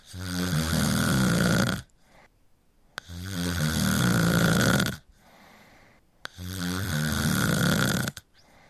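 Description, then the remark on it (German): The man-eating year monster of Chinese New Year legend snoring as it sleeps in the mountains: three long, loud, rattling snores of about two seconds each, separated by quiet pauses for breath, deep and rumbling with a harsh buzzy edge. No one speaks. “Dieses Monster schlief das ganze Jahr in den Bergen.”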